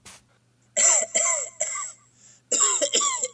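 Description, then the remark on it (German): A run of harsh, raspy coughs, three in quick succession, a short pause, then two more loud coughs, with no talking. “Das Mikrofon hustet.”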